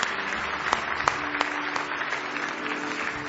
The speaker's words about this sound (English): Why don't you give the Lord a big hand clap of praise?